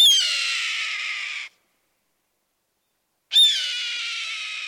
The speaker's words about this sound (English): Red-tailed hawks engage in spectacular aerial courtship displays accompanied by lots of screaming calls.